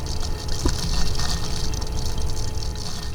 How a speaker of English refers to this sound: pours the microplastic solution into a machine that pumps it through a filter